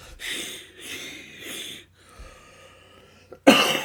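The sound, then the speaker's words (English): A series of raspy coughs, three in quick succession, then a wheezy, strained pause before one final, louder cough bursts out. No talking. “Cough gigs butter. Wow. He's sick.”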